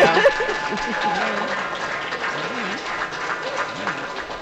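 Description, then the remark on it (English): A steady round of audience applause, dense clapping from a moderately sized crowd, sustained for a few seconds with faint voices and murmuring mixed underneath. “We'll give you a good round of applause.”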